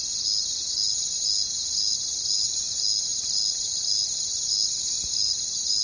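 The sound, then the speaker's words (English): A dense chorus of many crickets chirping steadily, their high pulsing trills overlapping into a continuous shimmering wall of sound with no voices present. “So what if we had a large number of crickets? Would it sound like a human choir? Let's find out. Here's a cricket orchestra.”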